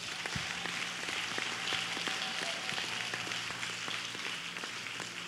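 A crowd claps for themselves together in a steady, dense wash of applause that holds at an even loudness for several seconds, with no voices heard over it.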